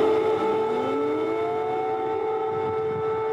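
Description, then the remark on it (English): An air raid siren wails steadily and loudly throughout Kyiv, the Ukrainian capital, its sustained tones sliding slightly in pitch, with a low rumbling background underneath and no voices. “His arrival came after air raid sirens blared throughout the Ukrainian capital.”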